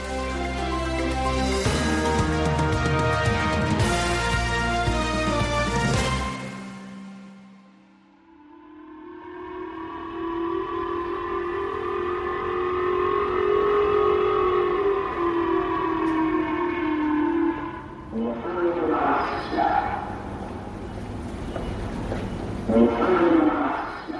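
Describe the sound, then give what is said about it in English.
A civil defense warning siren of Japan's J-Alert system wails steadily for several seconds in Aomori and Hokkaido prefectures in the early hours, set off after a North Korean launch, its tone swelling and slowly sinking. It is loud and sustained, following a short burst of other sound at the start. “Those are the sounds of sirens that played out in the Aomori and Hokkaido prefectures of Japan as part of the nation's J Alert system in the early hours of Tuesday.”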